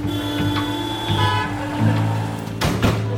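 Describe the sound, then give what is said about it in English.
Car horns honk in long, overlapping blasts over a steady rumble of congested traffic while an ambulance with its siren on speeds to an emergency call, with a louder burst of road noise near the end. No voices are heard. “They put on the siren and sped off. But it was terrible traffic.”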